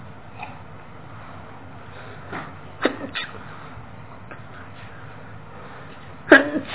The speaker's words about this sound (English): That means it's time for me to quit, so I've got to get through these last three in a hurry. When I sneeze, that means my time's up.